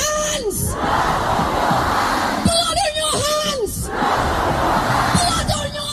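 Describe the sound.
A large protest crowd chants and shouts together in the street, with loud rising-and-falling voices in rhythmic bursts, dense and continuous throughout.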